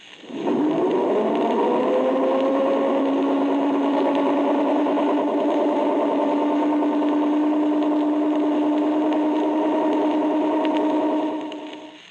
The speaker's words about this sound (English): A torpedo data computer.